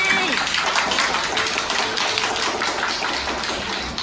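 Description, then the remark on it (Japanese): Dense, steady applause from the participants of a radio show's second "Gachinko" gathering fills the whole stretch, many hands clapping at once without a clear rhythm, with faint voices mixed underneath. “皆さん、参加の皆さん全員ね、拍手をいただいてありがとうございます。”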